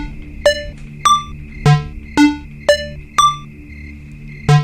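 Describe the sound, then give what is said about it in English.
A combination lock puzzle's tones, using four different tones: eight short, bright pitched chimes at differing pitches, struck at a steady pace with each one ringing out briefly over a faint steady hum. “So there's four different tones.”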